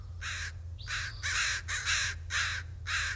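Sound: crow cawing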